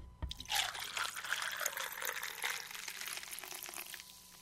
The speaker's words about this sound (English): You're going to take 4 ounces of amaretto. Okay, and then what? Then you're going to take 2 ounces of regular old Dr. Pepper. Poured over ice? Over ice.